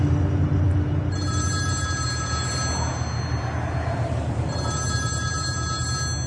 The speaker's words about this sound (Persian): موبایل عصبی توی کنسول زیر رادیو میزنه.